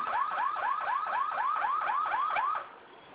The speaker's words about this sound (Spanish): ¿Sigue sonando la alarma? ¿Perdón? ¿Sigue sonando la alarma? Sí, sigue sonando. De acuerdo, suena del detector, ¿verdad? No, o sea, suena directamente del aparato.